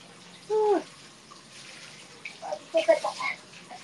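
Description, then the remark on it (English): Cold water sloshes and splashes in a few quick bursts near the end as it is mixed with a ladle-like water mixer, preceded by a short squeaky tone and a quiet stretch of soft background noise. “You like the water sounds? That's good. I've been mixing water.”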